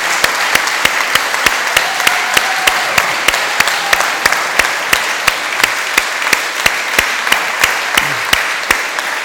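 A crowd applauds a trombone choir steadily for several seconds, a dense wash of clapping with sharp, evenly spaced claps beating through it in a regular rhythm, about two or three per second.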